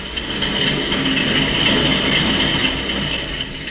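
A train heading north rumbles steadily along the rails, a dense, continuous rolling clatter that stays loud throughout, with no voices over it.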